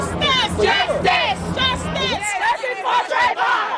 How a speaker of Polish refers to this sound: Dzisiaj przed komendą policji w Stanford protestują tysiące Amerykanów. Domagają się aresztu dla George'a Zimmermana i wyciągnięcia konsekwencji wobec policjantów, którzy nie zatrzymali strzelającego.